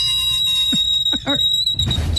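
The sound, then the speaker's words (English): A steady, high-pitched metallic squeal of a fork dragged across a plate holds for about two seconds, with brief voices breaking in partway through. “That's the fork. Oh, that's, dragon. Being dragged over a plate.”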